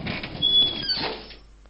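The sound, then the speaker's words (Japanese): A front door swings open after the doorbell rings, with a short mechanical rattle and a thin, high squeak of hinges, lasting about a second before fading into quiet. Moderately loud, with no voices. “そしてドアが開いた。”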